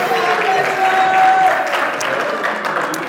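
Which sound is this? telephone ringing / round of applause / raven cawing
round of applause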